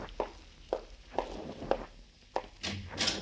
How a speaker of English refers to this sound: Open the door for him, Burton. Yeah, I will.